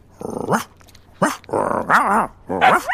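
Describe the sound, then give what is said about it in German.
A person mimics a dog, barking at puppies, letting out about five fairly loud barks and growly yaps in quick, uneven succession, some with a wavering, whiny pitch. “Auf Hundesprache? Okay, die kann ich natürlich nicht, aber es macht Spaß zu bellen.”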